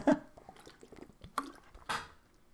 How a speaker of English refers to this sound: I'm going to get a drink of water before I tell you, because boy, this is going on long.